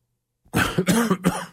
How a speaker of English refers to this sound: Excuse me. Got a little bit of a tickle, a little bit of a cough going on. I was hoping I wouldn't cough on air, but hey, these things happen.